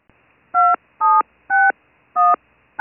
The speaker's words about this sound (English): First, using the keys on your Touchtone phone, enter your store number, followed by the pound key.